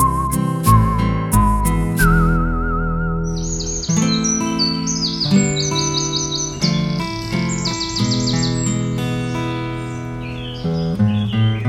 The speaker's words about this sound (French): Deux oiseaux font un duo, quel concerto, ce concerto. Les matelots font des bravos à ces oiseaux perchés là-haut, à ces oiseaux perchés là-haut.